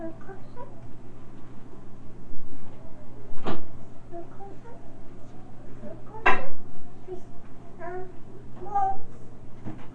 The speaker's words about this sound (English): Yeah, I don't like you to close that door.